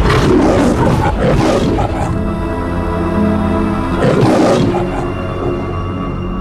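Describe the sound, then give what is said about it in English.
In the Metro-Goldwyn-Mayer studio logo, a lion, its head within a ring of film tape above a mask and laurel branches, roars twice: loud, rough growling bursts separated by a short pause, with a steady sustained musical tone humming underneath throughout. “A lion's head is situated within a ring of film tape above a mask and laurel branches.”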